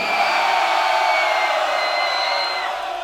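A large concert audience screams and cheers loudly to choose the title track the band should play, a sustained wall of shrill voices and whoops that holds steady for several seconds before easing slightly.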